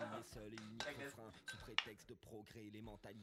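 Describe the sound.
Small ice cubes dropping into a cocktail shaker after rosemary sprigs are added, heard as a sharp clink with a couple of softer knocks, partly buried under a person talking continuously.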